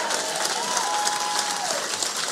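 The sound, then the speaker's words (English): Steady audience applause, a dense wash of many hands clapping at an even loudness throughout, with a faint whistle-like tone gliding through the middle. “Can y'all give it up for them as an example?”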